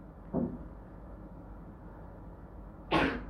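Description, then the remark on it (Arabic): A single sharp sneeze bursts out near the end, fairly loud, after a softer short breathy sound and a quiet stretch of low background hum. “يرحمك الله.”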